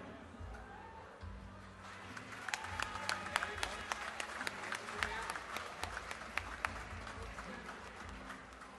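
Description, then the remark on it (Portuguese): An audience breaks into applause at an award ceremony as the Troféu Carijo for best poetic work is announced, many hands clapping in a dense, steady patter with sharper individual claps standing out, over a low crowd rumble with no clear speech. “Salva de palmas.”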